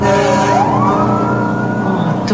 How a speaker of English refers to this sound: A fire truck races by.